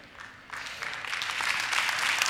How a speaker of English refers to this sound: Now, I noticed that some of you clapped, but not all of y'all clapped.